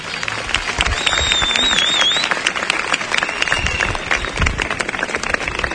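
Dense, steady applause from an audience fills the whole stretch, with many overlapping hand claps and a couple of high whistles cutting through early on.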